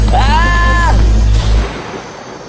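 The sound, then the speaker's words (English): A single sharp warning gunshot, fired by police officers on a train, cracks over a heavy low rumble, preceded by a wavering, bleat-like tone; the boom then fades into quiet. “A gunshot rang out, not a fatal shot, just a warning.”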